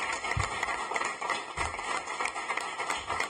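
Residents applaud in the plenary hall of the Sant Feliu de Codines council on a Thursday evening, bidding farewell to outgoing councillor Ramon Puig; many hands clap in a dense, steady patter that holds at an even, moderate level for the whole stretch without any voices.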